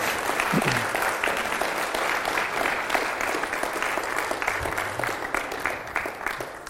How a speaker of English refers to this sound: Let's just clap to the Lord and thank him for his goodness today.